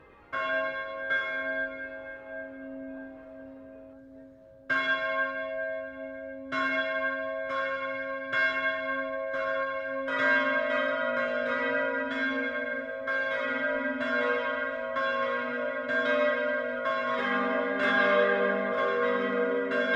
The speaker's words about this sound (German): Auch im östlichsten Niederbayern läuten heute viele Glocken die Weihnacht ein. Wir hören ein insgesamt 6,6 Tonnen schweres Plenum. Alle sechs Glocken hängen im granitverkleideten Turm der katholischen Pfarrkirche St. Konrad im Passauer Stadtteil